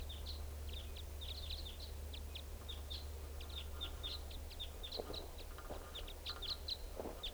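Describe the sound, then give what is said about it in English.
Many short, high-pitched chirps of type 5 birds repeat in quick, irregular bursts throughout, over a steady low rumble. No one speaks. “Well, the recording sounds like the type 5s are coming back.”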